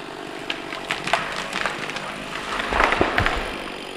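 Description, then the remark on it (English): The top half of a vigorous young tree is cut off and falls, taking about 90 seconds and leaving a 40-foot limbless trunk: sharp, scattered wood cracks and splintering pops build into a louder, rumbling crash of breaking timber near the end, with no one speaking. “It takes just 90 seconds for the top half of the tree to come crashing down.”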